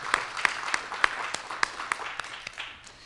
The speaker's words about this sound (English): Give them another round of applause, please.